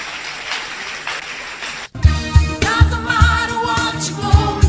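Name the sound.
audience clapping hands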